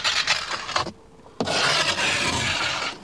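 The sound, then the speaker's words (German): An ice scraper rasps harshly across a car's glass rear window in two loud strokes: a short burst of gritty scraping, a brief pause, then a longer, steady grinding pass. No one speaks. “Kratzen und Schaben.”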